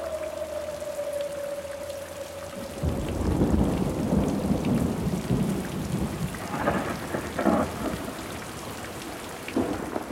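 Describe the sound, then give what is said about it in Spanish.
Heavy rain pours down steadily while deep thunder rolls and rumbles through loudly, with a faint tone fading out at the start. No voices. “El delirio por la lluvia suele acabar por los meses de septiembre y noviembre.”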